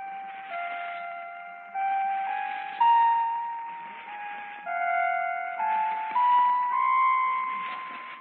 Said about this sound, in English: I know you just love my musical door chimes, Mr. Woolley. My neighbor, Jack Benny, wanted to make a few extra cents, so I had him build it. Listen.